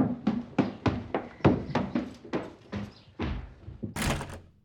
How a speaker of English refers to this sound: He went upstairs to his bedroom and closed the door.